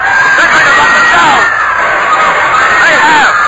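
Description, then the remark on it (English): A boat jammed with sightseers shouts and calls out all at once, wanting a look at the 'bony parts', a dense, loud babble of overlapping voices with high, rising and falling cries rising above the steady din throughout. “The boat is jammed with sightseers. They're shouting and calling out that they want to have a look at bony parts”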